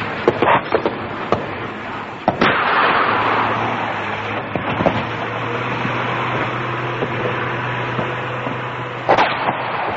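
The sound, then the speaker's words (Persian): Battle sounds of enemy fire on an open plain: sharp, irregular bursts of gunfire and a few heavier artillery booms, about half a dozen loud blasts, over a steady low rumble with no voices. “بر کوهی از آهن نشسته است و کوهی از خاک را جا به جا می کند و معنای خاک ریز هم آنگاه تفهیم می شود که در میان یک دشت باز گرفتار آتش دشمن می شود.”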